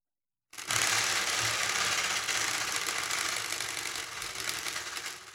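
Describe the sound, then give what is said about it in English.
A spinning bicycle wheel rattles as strips of paper whap rapidly between its spokes, a fast, steady, buzzing flutter that starts abruptly and eases slightly toward the end. No one speaks. “whapping between the spokes of the spinny wheel.”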